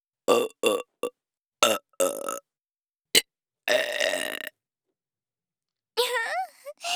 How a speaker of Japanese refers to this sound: 私のゲップ、他の女と比べてどう？私が一番？